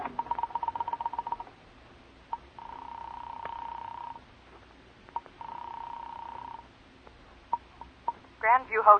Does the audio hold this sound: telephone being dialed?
yes